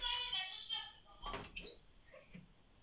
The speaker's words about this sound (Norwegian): Kan du slutte å leke med døra, sa jeg. La den være. Den blir ødelagt.